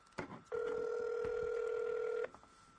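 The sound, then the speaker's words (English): A phone line rings out with one steady, buzzing ringback tone lasting under two seconds, preceded by a brief click, clear, with no talking; a call to independent-scene professional wrestler Effie Gibbs. “Let's call him right now, girl.”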